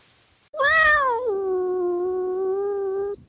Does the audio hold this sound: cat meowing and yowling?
yes